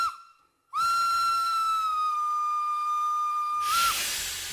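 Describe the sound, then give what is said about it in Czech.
In David Drábek's radio play Koule, a train's steam whistle sounds one long, steady, high-pitched blast lasting about three seconds as the train starts moving from the platform, then cuts off into a loud rush of hissing steam. “Vlak se hnul.”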